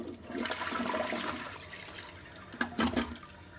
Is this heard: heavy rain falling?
no